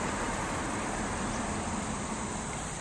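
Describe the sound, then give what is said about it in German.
A steady, dense roar of cars on the eight-lane Yankee Division Highway along the US East Coast rushes past without pause, a broad wash of tire and engine noise at even loudness, with no one speaking. “Achtspurig rauschen die Autos hier auf dem Yankee Division Highway die US-Ostküste entlang.”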